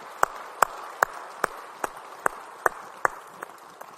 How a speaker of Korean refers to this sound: 우리 찬양받을 수 있게 영광의 박수 올리겠습니다. 할렐루야.